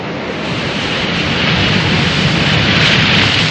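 A continuous, loud roar of ocean surf with broad hissing wash that swells slightly toward the end; no voices, just the steady rush of waves.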